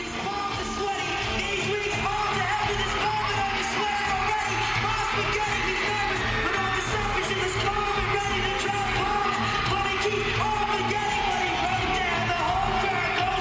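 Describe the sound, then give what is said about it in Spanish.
A cover of a rap song performed live at a show, the vocals shouted hoarsely and continuously over a loud, dense wash of crowd noise, everything distorted and constant in level for the whole stretch. “Es una persona que, insisto, está gritando, no es un animal sufriendo.”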